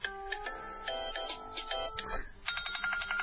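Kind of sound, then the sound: signal or alarm, phone ringtone playing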